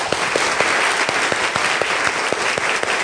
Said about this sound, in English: I just want you to clap really loud. And why don't we get everybody to do that, all right?